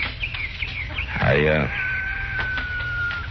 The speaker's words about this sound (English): You just wait till I finish feeding these hens.